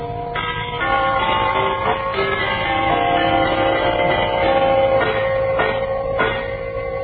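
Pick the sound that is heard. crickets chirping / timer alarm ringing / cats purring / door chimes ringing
door chimes ringing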